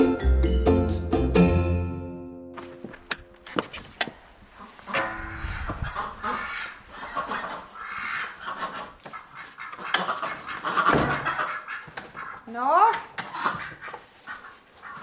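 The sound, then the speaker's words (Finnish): Domestic ducks, including the household drake, quack in short, raspy bursts with scuffling and flapping noises in between, following a brief tonal musical opening. “Jaksella täällä meidän ukkoankalla on vähän nokkapokkaa ollut Pietun kanssa, kun se on Pietu pari kertaa tyhjentänyt jyväkupin.”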